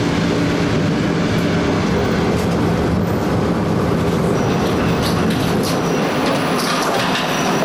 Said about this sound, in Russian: Школа была на соседней станции. До нее можно было дойти пешком, но быстрее проехать одну остановку на электричке.